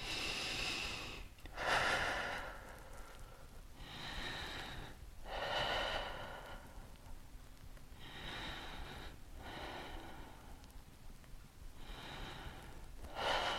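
Six slow, deep breaths during an exercise follow one another in a steady rhythm, each a broad airy rush, with some exhales pushed out through the mouth as the navel is drawn up toward the spine. Fairly quiet, with no talking.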